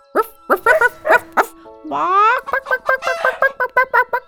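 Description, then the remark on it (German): A voice imitates a dog barking: a handful of short, evenly spaced barks, a drawn-out wavering yelp, then a quick string of sharp yaps, all loud. “Von dem einen Weg her hörten sie Hundegebell, vom anderen Hühnergegacker.”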